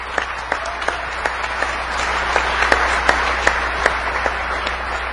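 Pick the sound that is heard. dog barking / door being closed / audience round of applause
audience round of applause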